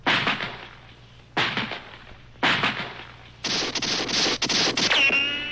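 A log slams against a door in three heavy, booming thuds spaced about a second apart, then a rapid flurry of loud crashing blows ends in a brief metallic ring.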